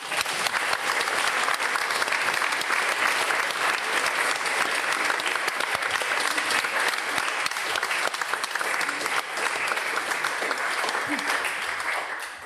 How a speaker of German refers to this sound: Herzlichen Glückwunsch. Und ich glaube, jetzt klatschen.